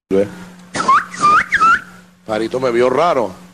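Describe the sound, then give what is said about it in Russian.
A person whistles three short, bright, bird-like phrases in reply to a bird whistling from a wooden beam, followed by a longer warbling vocal passage, with a low steady hum underneath throughout. “И я понял, что ты свистишь, и я свищу. И я стал свистеть ей в ответ.”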